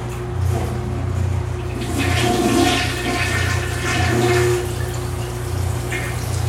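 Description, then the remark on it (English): A standard toilet in a bathroom flushes with a steady, loud rush of water that swells and eases in waves over several seconds, a low constant hum running underneath throughout. “Shower, toilet, a sink.”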